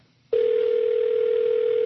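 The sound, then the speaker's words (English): A telephone in a secretary's office at work rings for an incoming call, a steady, unbroken electronic tone that starts abruptly after a brief silence and holds at an even, fairly loud level, with no voices. “I was walking past my boss's secretary's office just as he was picking up an incoming phone call.”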